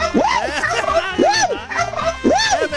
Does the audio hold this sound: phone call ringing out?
no